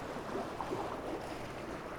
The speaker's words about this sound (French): Écoute les vagues. On le voit.